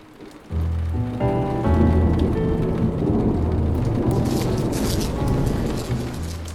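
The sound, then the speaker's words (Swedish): Steady rain begins abruptly after a brief quiet moment, a dense hiss over a deep rumbling undertone, with brighter crackling patter joining in the second half. No one speaks. “Det regnar.”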